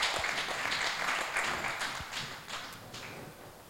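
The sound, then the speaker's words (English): An audience in a church service claps together as a clap offering to the Lord, in a steady, dense burst of applause that holds for a few seconds and then gradually tapers off, with no voices over it. “You may please give the Lord a clap offering and let's take our seat.”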